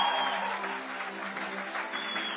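A church crowd applauds steadily, giving the Father a hand clap: a dense, continuous wash of clapping that holds at an even loudness for a couple of seconds, with no voices standing out.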